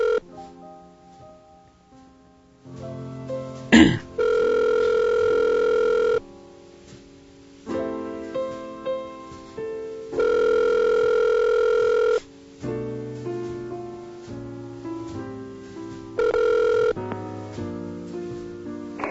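A phone line rings three times before a voicemail picks up, each steady two-second tone spaced several seconds apart, with a sharp click early on and faint tonal music-like sounds in between.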